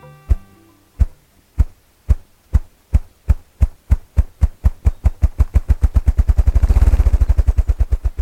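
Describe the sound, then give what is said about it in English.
Deep, muffled thumps from a male ruffed grouse drumming in its display, starting as slow separate beats and speeding up into a rapid, blurred whirr before fading, heard alone with no voices. “what you're hearing is a male ruffed grouse performing his drumming display”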